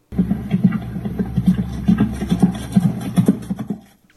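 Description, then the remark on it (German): A horse gallops straight ahead, not performing any schooling movement, in a steady, rolling rhythm of heavy, thudding hoofbeats over a constant low rumble. There are no voices, and the pounding continues for about four seconds before stopping. “Das Pferd galoppiert im Endeffekt geradeaus, also es ist gar keine Lektion, die es macht.”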